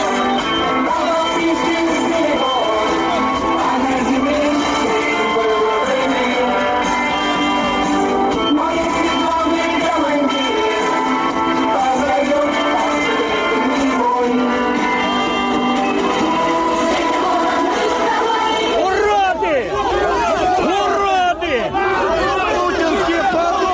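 A patriotic song blares from police car loudspeakers over a large crowd's steady chatter and shouting, loud throughout, with wavering, warbling tones surfacing near the end.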